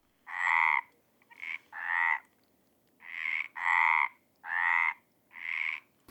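Loud, rasping croaks in a steady series of about seven bursts, each roughly half a second long with brief gaps, harsh and buzzy with a strong nasal mid-pitch tone, like a chorus of frogs calling.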